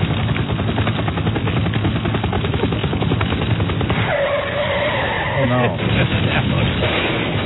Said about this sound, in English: How come they crashed, but I'm still hearing the helicopter?